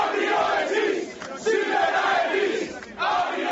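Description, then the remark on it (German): A crowd of Laiki Bank employees protesting outside parliament, shouting and chanting together, loud rising and falling waves of many voices with brief dips between bursts of yelling. “Angestellte der Bank protestieren noch immer vor dem Parlament.”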